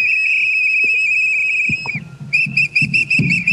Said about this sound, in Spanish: Harto elemento sonoro en compañía de las batucadas, gritos, lemas que también se pueden escuchar a lo largo de esta manifestación.